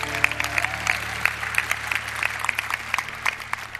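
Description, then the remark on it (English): An audience at Rhema Bible Church claps their hands in steady, dense applause during an evening service, many overlapping claps blending into a continuous wash that holds at a moderate level for several seconds. “Let's give them a big hand clap.”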